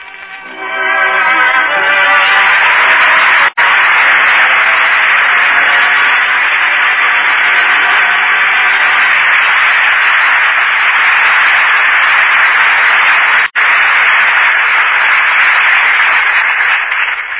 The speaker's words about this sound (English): That applause invites the return of the two artists who gave such distinguished performances tonight. Loretta Young, whom we've presented many times before, and Orson Welles, who has made his first appearance in the Lux Radio Theater tonight.